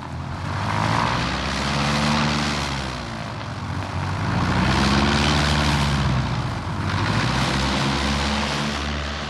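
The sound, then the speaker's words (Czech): A propeller plane's engine drones steadily and loudly, its pitch rising and falling in slow sweeps with a rumbling low end and broad hiss above. No voices. “Tohle například je letadlo.”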